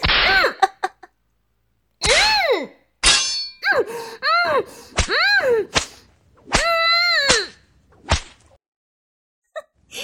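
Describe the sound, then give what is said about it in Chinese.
Sharp whip cracks from the Seven Emotions and Six Desires Whip land one after another, about eight lashes over ten seconds, each followed by a drawn-out wailing, pained cry. “小贱人，啊，这鞭子抽得你爽不爽啊？我的七情六欲鞭可不是普通的鞭子啊，被鞭子抽打皮肤，就像摸了世间最烈的春药一样”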